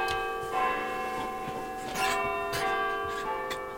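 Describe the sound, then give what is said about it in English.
Big Ben's clock bells chime live, heard in BBC Studio S34 just before the 6 o'clock evening news on Radio 4, with several struck notes landing about half a second apart over a rich, sustained ringing hum that lingers between strikes. No one speaks. “This is Studio S34, just before the 6 o'clock evening news on Radio 4, and preparations for a daily ritual, the live sound of Big Ben.”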